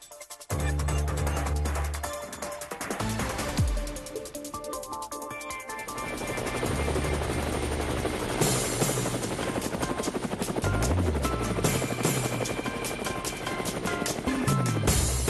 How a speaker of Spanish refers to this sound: Bueno, con tantas noticias hoy martes, pues es agradable montarse en el helicóptero y ya nuestra productora y el que les habla estamos ready para seguir a nuestra colega